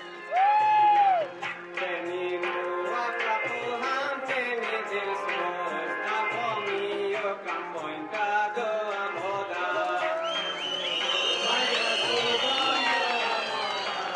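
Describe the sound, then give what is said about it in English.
A large crowd at an election rally for candidate Zalmai Rasool in Bamiyan, Afghanistan, roars and cheers continuously, many voices shouting together in a dense, loud swell that rises further toward the end. “One speaker urged the crowd to roar loud enough to shake the dust off the Buddhas.”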